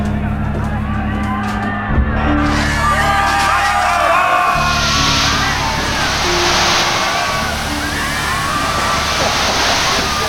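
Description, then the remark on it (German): A loud, steady rush of water from fire hoses connected to hydrants, spraying at full force onto a shouting, whooping crowd of Reds, hisses with a low engine drone running underneath throughout. “Feuerwehrschläuche an Hydranten und dann volles Rohr Wasser auf die roten Drecksäcke.”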